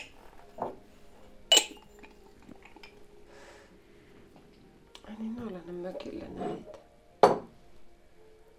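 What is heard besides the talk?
dishes clinking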